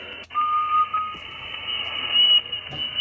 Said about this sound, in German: Wenn da so eine Pfeiferei ist oder irgendetwas, das ist also nicht, weil einer lustig ist, sondern der stimmt seine Antenne ab. Das heißt, er pfeift hinein und dreht an den Knöpfen, dass er die maximale Ausgangsleistung hat.